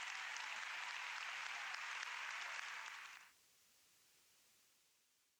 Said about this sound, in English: You can applaud now.